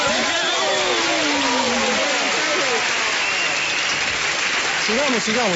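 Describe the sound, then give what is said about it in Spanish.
Steady audience applause for the mayor fills the whole stretch, a dense wash of clapping at an even level, with voices calling out and talking over it. “Un aplauso para el alcalde.”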